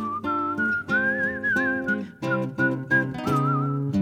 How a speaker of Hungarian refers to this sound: A fütyülő szóló előadója